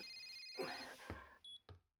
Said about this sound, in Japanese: でもね、君も悪いんだよ。このタイミングでこの着信を。あ、ごめん、ちょっと電話出るね。